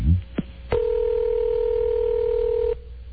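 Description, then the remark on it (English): A couple of clicks, then a steady electronic telephone tone sounds clear for about two seconds before cutting off abruptly as a phone call is placed. No one speaks. “And we're going to call her now.”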